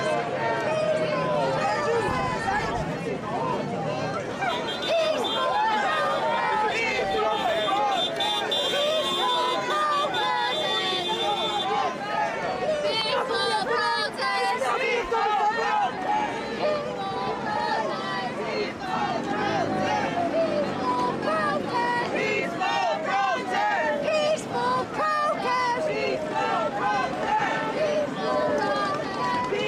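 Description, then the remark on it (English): A protest crowd in a dense, constant roar of overlapping voices, shouts and yells piling on one another at a steady loud level for the whole stretch, with no single speaker standing out, as law enforcement pushes across the line. “And here we have law enforcement pushing across the line.”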